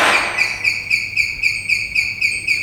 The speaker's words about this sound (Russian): Со звуком открывается дверь в тамбур.